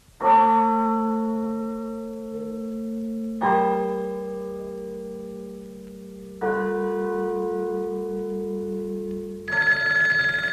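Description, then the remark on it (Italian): A church bell tolls four slow, heavy strikes about three seconds apart, each ringing out with a rich, lingering hum that blends into the next. The bell is loud, with no voices. “La campana suona per te.”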